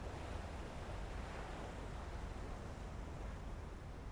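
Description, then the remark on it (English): A steady, low rush of surf rolls on without pause, a soft continuous roar of waves on a shore with no single crash standing out and no voices. “And the waves crashing on the shore.”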